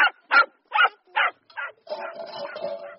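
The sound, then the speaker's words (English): A badly behaved, untrained pet dog barks five times in a steady, evenly spaced rhythm, loud, then breaks into a longer, rougher stretch of continuous noisy yapping. “why did I ever agree to get this dog? It's so badly behaved.”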